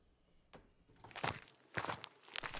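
Soft footsteps creep along as a child gets out of bed and tiptoes to the front door, four or five careful, uneven steps with quiet gaps between them, no voices present.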